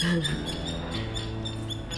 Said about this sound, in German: Hörst du die Vögel? Ja. Jetzt hört man die Vögel wieder.